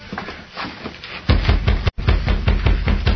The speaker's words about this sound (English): He rapped on the door.